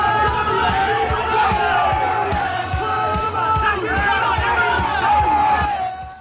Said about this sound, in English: The crowd from the pub approach the stadium.